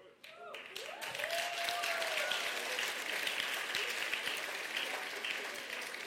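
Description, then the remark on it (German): Sustained audience applause, a dense steady patter of many hands clapping that swells quickly after a brief start and holds at a fairly loud level, with faint voices underneath. “Genau, und wegen dem Applaus gucken die beiden so ernst.”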